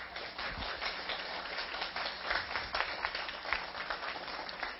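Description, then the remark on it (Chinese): On Mother's Day, an audience applauds steadily for several seconds for the mothers, who are standing, many hands clapping in a dense, continuous patter with no talking over it. “是我们所有请妈妈都起立一下，所有的妈妈都起立，我们给妈妈们再一度鼓掌。”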